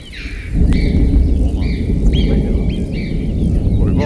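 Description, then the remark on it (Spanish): A deep, sustained rumble of distant thunder rolls and echoes through a large canyon at Ordesa in the high mountains, with birds (choughs) chirping intermittently above it. No one speaks. “El Trabuco de Ordesa, donde retumba el trueno, gritan las chovas, las marmotas, las aves y los animales de alta montaña, pero sobre todo el escenario lo rellena el retumbo, el sonido, la retumbancia, si tal palabra existiera, del trueno.”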